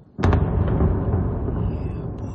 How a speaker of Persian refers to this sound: ساکنان اودسا یک شنبه با صدای انفجار از خواب بیدار شدند.